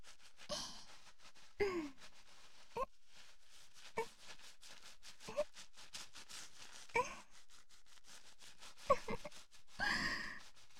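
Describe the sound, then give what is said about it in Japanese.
Shampoo being lathered into hair: a series of soft, wet, squishy rubbing bursts at uneven intervals, a few drawn out longer, with no talking. “しっかり泡立てないとですからね。”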